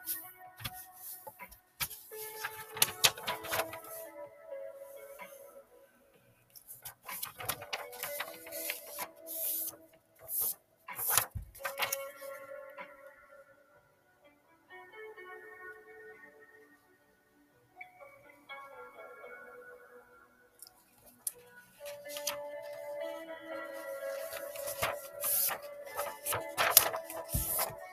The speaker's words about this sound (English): I'm just doing freestyle origami to turn it into a square piece of paper first.